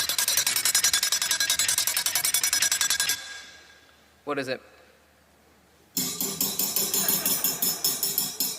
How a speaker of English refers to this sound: Yeah, so if you guessed a like a little rack that you can cool cakes on, then, I mean, well done.